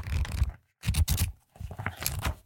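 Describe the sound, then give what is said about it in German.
A Stabilo pen scratches across a paper notepad in three bursts of quick scraping strokes separated by brief pauses, with no talking. “Bitte nehmt euch einen Block, einen DIN A4 Block im besten Falle, einen Stift zur Hand.”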